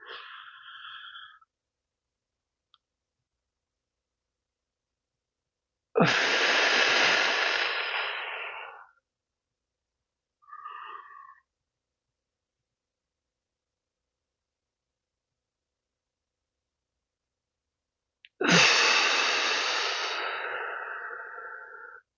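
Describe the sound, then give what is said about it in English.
A person doing a 4-7-8 breathing exercise: two long, forceful whooshing exhales about twelve seconds apart, separated by quiet held pauses, with a couple of brief soft tonal sounds in between. “4, 7, 8 breathing, and I'm just going to go.”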